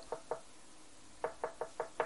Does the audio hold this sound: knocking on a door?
yes